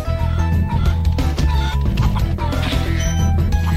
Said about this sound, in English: Chickens.